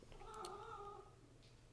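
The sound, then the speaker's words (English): A cat named Panda lets out one long, drawn-out, agitated meow that lasts about a second and then trails off, heard alone with a faint click just after. “My cat Panda's having a little bit of a freak out.”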